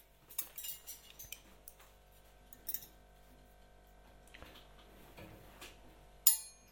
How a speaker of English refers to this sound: Cutlery. Cutlery.